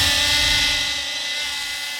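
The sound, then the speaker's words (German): A drone buzzes steadily in flight, its high, whiny rotor hum holding a constant pitch and loud throughout, fading slightly toward the end, with no voices. “Ja. Drohnen. Nicht mehr wegzudenken, oder?”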